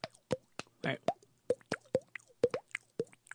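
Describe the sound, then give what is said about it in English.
A voice imitates a water drop with a quick series of about ten wet, hollow plops made by the mouth, fairly loud, in an uneven, rapid rhythm. “I can do a water things. Drop.”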